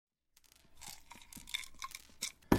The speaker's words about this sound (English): crushes pills and hand mixes a child's medication with a glass mortar and pestle. She uses only the light of the afternoon sun that filters through the windows of County Square Pharmacy in Attleboro.